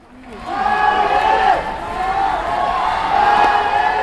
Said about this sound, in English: 6,000 fans have packed the gymnasium at Beijing University. They're chanting "Go, Ma Lin," cheering on one of China's top ping pong players.